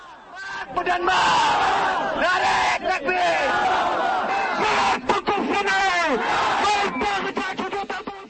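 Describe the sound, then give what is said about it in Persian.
A large crowd of protesters in Jalalabad, blocking the highway toward Pakistan, shouts death slogans including death to the Netherlands in unison, loud rhythmic chanting with rising and falling voices that continues without pause, rough and energetic throughout. “با اطلاع خبرنگاری رادیوی آزادی، تظاهرگران در جلال‌آباد شاهراه سوی پاکستان را بستند و در آنجا پرچم‌های دنیا و هلند را آتش زده نداهای مرگ به دنیا و مرگ به هلند در می‌دادند.”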